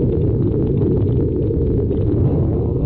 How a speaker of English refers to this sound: That's how an earthquake sounds.